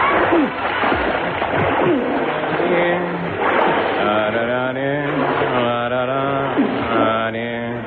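Water sloshes and splashes steadily in a sewer under the Euston Road, a continuous churning wash with occasional sharper splats, while voices sound over it throughout.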